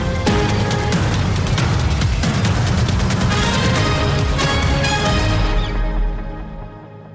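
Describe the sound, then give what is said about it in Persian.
Sustained gunfire crackles without pause, a dense stream of sharp loud bursts over a steady low rumble, fading slightly toward the end. No one speaks. Taliban militants fire continuously to disperse protesters gathered outside the Pakistani embassy in Afghanistan. “تیراندازی ممتد برای متفرق کردن معترضان.”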